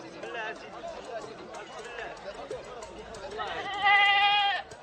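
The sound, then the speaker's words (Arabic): A goat lets out a single loud bleat lasting about a second, wavering and nasal, after a stretch of indistinct voices and rustling. “آه تباً لك عنزة كصاحبتها.”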